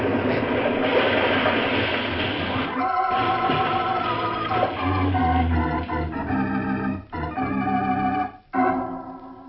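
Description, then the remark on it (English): A loud, roaring crash of a train wreck on a trestle after a detonator explosion, a dense rumbling burst that gives way to sustained ringing tones and heavy low rumbles, with no voices. “All right, then I'll close the detonator. Now, there she goes.”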